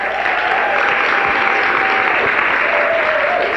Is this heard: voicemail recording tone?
no